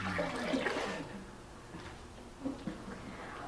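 Water pours and splashes out of a Forest Service canteen, a strong gush at first that thins to a softer trickle with a couple of small splashes near the end. No talking.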